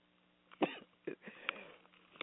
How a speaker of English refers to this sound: Excuse me. Sneezing and coughing.